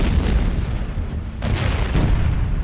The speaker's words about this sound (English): Artillery shells began raining down on the small village, lighting up the night like fireworks.